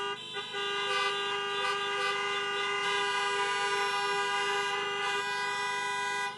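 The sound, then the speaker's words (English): Many car horns honk together in a loud, sustained chorus to celebrate graduates, overlapping tones blaring almost without a break for several seconds, with no one speaking. “So graduates, whoever you're with at this time, show the love, give a big old hug, fist bump, elbow bump, or just honk the car for showing your love.”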